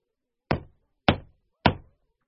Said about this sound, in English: Little Red Riding Hood knocks on the door of Grandma's house.